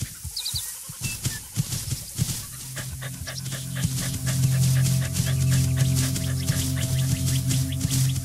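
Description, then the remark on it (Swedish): A dog in a video game pants rapidly and rhythmically, with short sniffing bursts, over a low steady hum that represents the scent trail the dog follows, and some faint background tones. “Gå, spring, hoppa, sniffa och skäll och framförallt hitta de försvunna personerna.”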